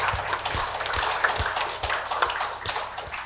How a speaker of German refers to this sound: Halleluja, Gott ist so groß, oder? Okay. Und weil, ja komm, wir klatschen für Gott.